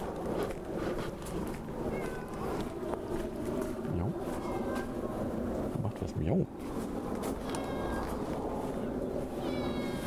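A cat meows several times at intervals, the calls clear, set against a steady, noisy background hum with some murmuring underneath.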